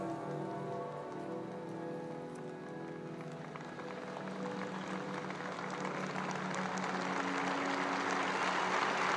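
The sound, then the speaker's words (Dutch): A large crowd on St. Peter's Square applauds as the coffin of Pope Francis is carried into the basilica: dense crackling claps that start softly beneath fading sustained tones and swell into a steady, loud roar of clapping. “Een applaus rijst op van op het Sint-Pietersplein.”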